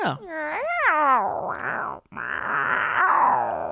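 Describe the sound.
A person imitates a cat, starting with a wavering, rising-and-falling yowl, then breaking briefly before a rough, sustained growl that carries loudly to the end.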